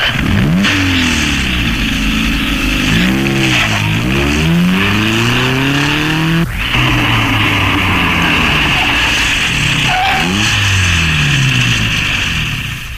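A sports car engine revs hard and pulls away, its pitch climbing and dropping through several gear changes, loud for the whole stretch with no voices.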